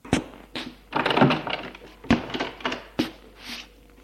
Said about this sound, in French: Ouvrir la porte qui se trouve à droite de sa chambre.